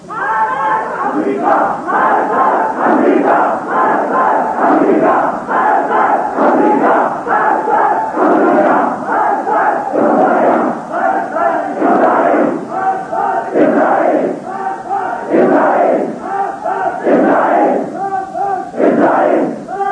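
A large crowd in Pakistan, including young and old people, women and clerics, chants the slogans 'Death to America, Death to Russia, Death to Israel' in unison on Quds Day. It is loud and rhythmic, with repeated shouted phrases rising and falling in steady bursts throughout, and no single voice stands apart.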